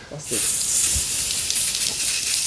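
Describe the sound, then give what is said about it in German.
A steady, bright aerosol hiss of hairspray being sprayed onto hair on top of a head where little hair is left, starting abruptly and continuing for a couple of seconds, with faint voice murmurs underneath. “Da oben ist gar nicht mehr so viel Haar, um darauf zu sprühen.”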